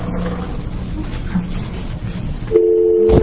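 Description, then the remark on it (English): A steady telephone dial tone comes on suddenly near the end as a call is about to be dialed, a loud continuous hum. Before it there is only a muffled, rumbling background. “You want to dial it for me?”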